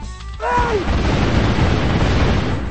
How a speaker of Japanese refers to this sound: まあ大砲の別バージョン、うん、